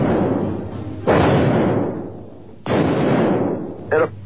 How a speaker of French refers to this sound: Au même moment, un journaliste d'une radio locale entend et enregistre lui aussi les coups de feu qui vont tuer un des présidents les plus célèbres de l'histoire des États-Unis. C'était il y a 40 ans à un jour près, le 22 novembre 1963.